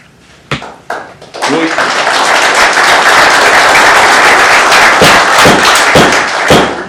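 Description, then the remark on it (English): A couple of dull thumps, then an audience at a meeting on right-to-work legislation breaks into loud, sustained applause after a speaker finishes, a dense wash of clapping that carries on steadily for several seconds with occasional sharper claps standing out. “I will remind you, we will not have applause.”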